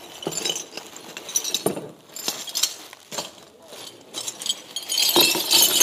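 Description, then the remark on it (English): A plate being smashed with a hammer: several sharp, bright clinks and cracks of breaking ceramic at irregular intervals, fairly loud, with shards rattling in between. “Smashing a plate with a hammer, it is broken.”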